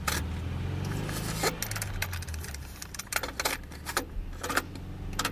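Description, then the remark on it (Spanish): Keys jangle in bright, irregular bursts over the low, steady hum of a car engine running throughout, as someone rides inside a moving car on a car journey. “todo comienza con un viaje en coche.”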